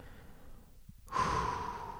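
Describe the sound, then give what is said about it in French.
A slow, deep breath: a soft, quiet intake, then a strong, broad exhale that gushes and trails off with a gentle hiss. No one speaks. “Respiration.”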